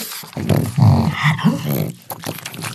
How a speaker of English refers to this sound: Mike, you should be able to spot it. That's a dog. It's a pug. close mic'd pug. And I just wanted to offer my condolences that we lost Beluga before the showbiz career took off. That inability to breathe.